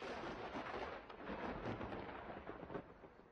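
thunder rumbling

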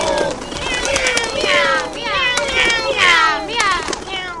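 cats meowing and yowling

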